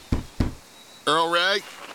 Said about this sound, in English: Now come with me back to the express car. Knock on the door and tell the express man to open up.